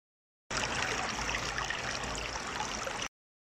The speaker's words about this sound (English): They see a running river.